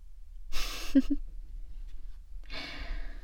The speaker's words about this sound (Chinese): 哎，怎么了？喘气喘得这么大声，是我刚才赏你的那几个屁，还吸得不够是吗？怎么，感觉自己快要死了？